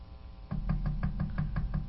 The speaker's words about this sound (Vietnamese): Nàng gõ luôn 2-3 cái nữa, thì có tiếng chân đi lại ở phía cửa.